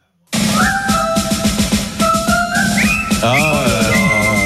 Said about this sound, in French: Le kiff au travail le matin à 5h, c'est de siffler les premières mesures de ça.